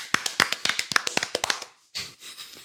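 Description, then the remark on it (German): Quick, sharp hand claps, about a dozen in an uneven burst, fairly loud, then they stop and a brief soft rustling noise follows. No one speaks. “Gibt's Applaus jetzt?”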